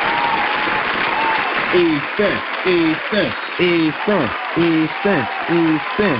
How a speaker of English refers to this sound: I just want to give a round of applause to not only Eastern Stick, but North Dakota State for dominating, man.